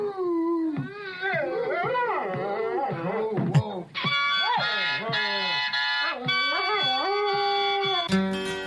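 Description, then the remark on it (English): A dog howls and yips in long wavering, sliding tones, singing along while a harmonica plays sustained chords, both fairly loud throughout. “Here, I want you to sing. Sing these folks' song. Sing the old Rugged Cross. Listen, chord with this now. Yeah. His dog's a Christian.”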